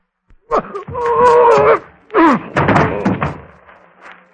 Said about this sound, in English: and then fall on the floor and pretend to be dead. Ready? Fire! Now watch. I shall throw my arms up and, in my best manner, simulate the movements of a gentleman receiving a knife in his back.